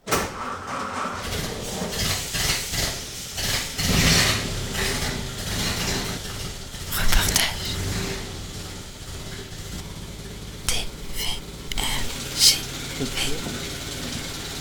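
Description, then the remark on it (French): A vintage Citroën car's engine running as people get into the car, a steady rumbling drone with intermittent mechanical clicks and clunks, a few sharper knocks toward the end, and faint voices underneath. “Là, on monte en voiture.”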